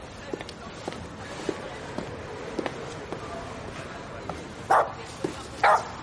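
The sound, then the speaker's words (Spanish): A six-year-old pug barks twice near the end, two short, sharp yaps about a second apart, standing out over a quiet cobbled street background with faint scattered clicks. “Es un carlino, de 6 años.”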